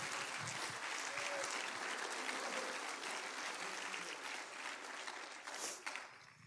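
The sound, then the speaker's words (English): A church audience claps steadily in sustained applause to praise Jesus, a dense wash of many hands at an even level before tapering slightly at the end. “If you want to trust in Jesus, can we clap our hands together and praise him?”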